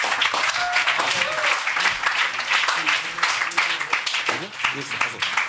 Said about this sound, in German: aber ein Applaus für Möbel Bayhoff.